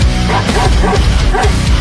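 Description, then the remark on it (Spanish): A dog barks loudly, a few quick bow-wow barks in a short burst with little pause between them. “El perro hace.”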